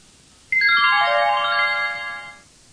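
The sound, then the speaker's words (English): A shop's telephone rings as a customer phones in, with an electronic ringtone: a quick run of bright, stepping tones sliding downward in pitch, sustained for about two seconds, then stopping. No one speaks. “She is phoning the shop.”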